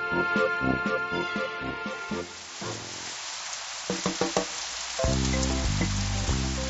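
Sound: rain falling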